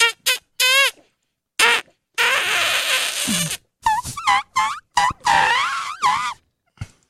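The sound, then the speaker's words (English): A rapid series of high, squeaky chirps and warbling squeals, clearly made by human voices imitating dolphin calls, coming in short bursts with brief gaps and one longer, noisier screech in the middle. “You guys are communicating. Like dolphins, like we want to fuck.”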